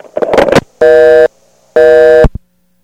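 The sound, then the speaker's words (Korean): A brief clattering handset noise as a phone is hung up, then two long, loud, steady electronic tones with a short gap between them, a phone's disconnect signal, at the end of a Live Phone test. The tones sit alone with no talking. “전화는 끊겠습니다.”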